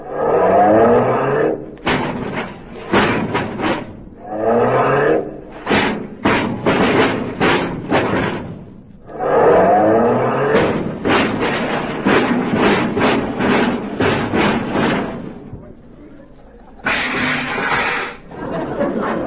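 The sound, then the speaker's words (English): A car engine revs loudly in repeated surging bursts, alternating with rapid clattering knocks and thumps as the car is being parked, with no talking over it. “Oh, well, I hope I can park this without scratching it.”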